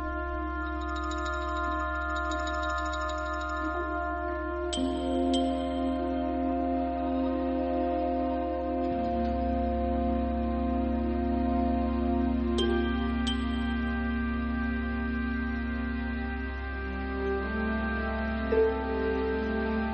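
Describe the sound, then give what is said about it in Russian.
A small bell rings out twice in a film with bright, high chimes, sounding at each transformation of a creature over a pond, the tones lingering briefly over a steady, humming musical drone, with faint tinkling earlier on. “Жест за жестом, лапка за лапкой. На каждое преображение звук колокольчика.”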